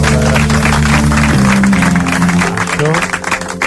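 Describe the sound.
An audience breaks into steady, dense applause that holds strong for several seconds, with a low sustained tone and some voices mixed in beneath the clapping.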